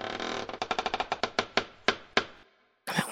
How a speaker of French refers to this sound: Attends, j'ai entendu un bruit. Il y a eu un bruit bizarre là, c'est comme un grincement, écoute.